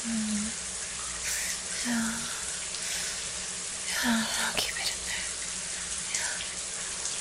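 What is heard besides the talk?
shower running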